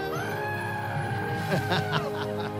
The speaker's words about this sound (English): Oh, this is perfect for a Thursday. It's the Screaming Goats, ladies and gentlemen.